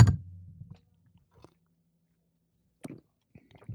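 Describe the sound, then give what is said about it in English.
Mouth sounds of someone sipping a 3.8% coffee-flavoured mild beer: a brief wet slurp at the start, a quiet pause, then a couple of soft swallowing and lip noises near the end. “I'm taking a sip of this bad boy.”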